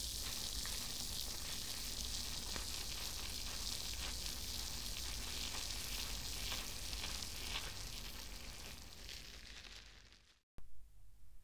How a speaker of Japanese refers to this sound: 耳元で炭酸の泡が弾けてるの、わかりますか？この音を聞いてるだけで、気分がすっきりしてきません？炭酸たっぷりの泡を作っている音も、楽しんでくださいね。